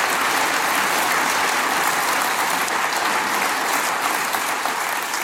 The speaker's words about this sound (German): Vor allem der Applaus von Ihnen, meine Damen und Herren, der war jetzt lauter als im Bundestag heute durchgehend.